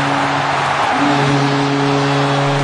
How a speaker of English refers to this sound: God, I love the noise that that crowd makes when Sturm scores the goal. I had to use the CBC audio instead of the local New England Sports Network one because they don't mic the crowd properly.